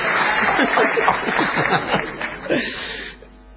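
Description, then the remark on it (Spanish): An audience applauds steadily, a dense wash of clapping mixed with murmuring voices and a bit of laughter, holding loud for about three seconds before thinning out. “¡Que aplauden! ¡Que aplauden!”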